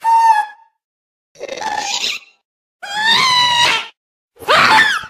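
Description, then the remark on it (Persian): Four separate wailing cries from a Minecraft ghast, each high-pitched, warbling and mournful, lasting about a second with short silent gaps between them. No one speaks. “چون وقتی به صدای گست دقت کنید متوجه میشید انگار داره گریه میکنه یا صداهای ناراحت کننده از خودش در میاره.”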